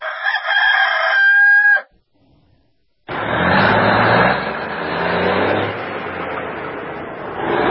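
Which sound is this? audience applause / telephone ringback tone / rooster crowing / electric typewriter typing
rooster crowing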